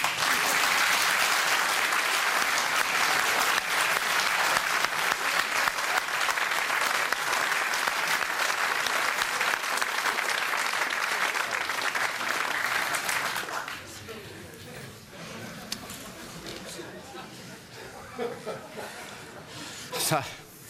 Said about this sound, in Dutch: Ik wou u daarom vragen een warm applaus te geven voor acteur Bernd Waldman.